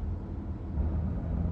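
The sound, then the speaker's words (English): A steady, low engine rumble of a police car driving behind, a continuous droning hum with road noise and no siren, holding fairly even in loudness throughout with no voices. “There's a car behind us, sir. I think it's a police car.”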